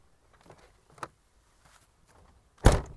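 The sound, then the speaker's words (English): A car door slams shut with one loud, solid thud, preceded by a few faint clicks and rustles, as the driver gets out at the main entrance to the village of Lasse in the French Pyrenees. No one speaks. “So I've just got out of my car and I'm on the main entrance into the village of Lasse”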